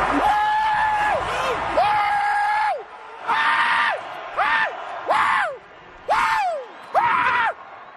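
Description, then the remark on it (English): A man screams wildly, imitating football player Earl Thomas, in a series of loud, high-pitched bursts, about seven rising and falling yells in quick succession. “Like I was screaming because I was really channeling my inner Earl Thomas here.”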